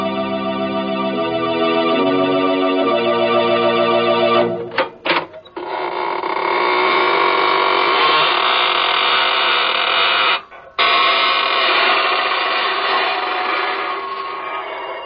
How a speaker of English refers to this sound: This is your host of the Inner Sanctum, inviting you in through the creaking door.